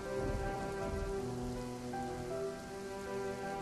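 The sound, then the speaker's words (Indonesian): Steady, unending rain pattering on a hard surface and making the air cold, a dense continuous hiss of drops at an even level throughout, with faint sustained tones lingering underneath and no voices. “Kamu menatap ke arah jalan, berharap hujan segera reda.”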